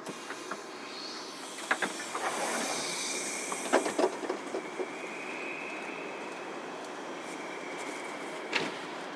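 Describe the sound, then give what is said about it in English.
A train rolls along the rails with a steady rumbling hiss, broken by irregular clunks and clacks of wheels over joints and a faint high squeal midway. No one speaks. “Whistling for this train.”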